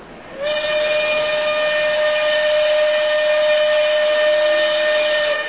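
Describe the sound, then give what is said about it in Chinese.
A train leaving Nanjing sounds one long, steady, loud blast of its steam whistle lasting several seconds over the continuous rumbling noise of the moving train, with no voices. “黎曼玛丽和苏娟坐着火车目送着那一群逃难的百姓逐渐远去，心里有点难过。”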